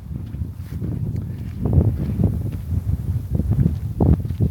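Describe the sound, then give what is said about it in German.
Low, rumbling buffeting of a small gust of wind against a microphone, a steady gusty roar that swells briefly and then settles, with no voices over it. “Kleine Windböe, die lassen wir mal durch.”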